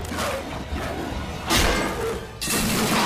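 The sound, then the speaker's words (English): A frying pan slams into a dog's head in a kitchen with a loud thud, and a second heavy crash follows about a second later over a noisy, rumbling background. “She grabs a frying pan and smashes the other dog in the head.”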